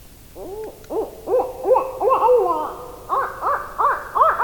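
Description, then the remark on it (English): Owls hoot in winter in a rapid, continuous series of short, rising-and-falling calls, with some overlapping as if more than one bird is calling, steady over a quiet night background. “The winter soundscape is pretty silent compared to spring's cacophony, but if you're lucky, you'll hear owls, those denizens of the long night, singing during the winter months.”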